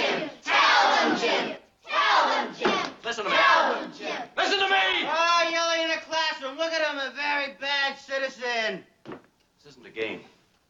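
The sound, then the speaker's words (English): The neighbor's children screaming and yelling loudly outside, several overlapping voices in long, high-pitched shrieks and wavering cries, continuing for about nine seconds before trailing off into a few short shouts. “I stop for a second because I can hear the neighbor's kids, and I guess because they know we're doing Star Trek, they're just outside screaming, grup, grup, grup, grup, grup.”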